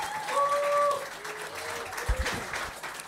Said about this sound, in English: Big round of applause